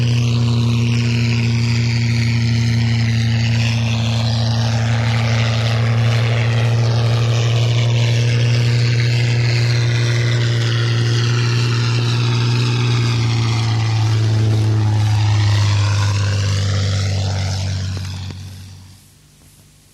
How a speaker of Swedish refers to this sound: Vi får nu lyssna till en Hawker Hind mitt i en regnskur.